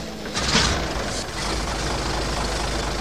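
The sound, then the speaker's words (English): A vintage 1926 Maxwell car engine runs with a steady, low rumble and rough mechanical chugging, marked by a brief hissing burst near the start, as the car is driven for a demonstration. No one speaks. “In my car. A 26 Maxwell? Sure. Hop in and I'll give you a little demonstration.”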